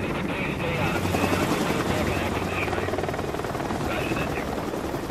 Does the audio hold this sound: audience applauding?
no